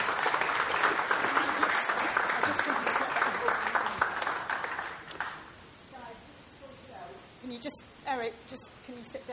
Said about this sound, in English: Thank you very much. Quick round of applause for drama.